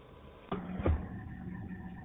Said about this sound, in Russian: Ну да, да. Ну я курю, это такой куритель. Кашель у меня есть такое, есть.